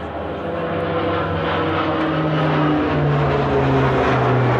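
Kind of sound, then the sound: vehicle, airplane flying overhead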